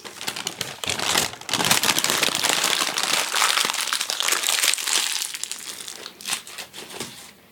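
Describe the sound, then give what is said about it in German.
Paper being crumpled as it is put aside, a continuous run of crisp crackling and crinkling with dense irregular snaps, easing off briefly near the end before a final burst of rustling. “Ich muss nur das Papier weglegen.”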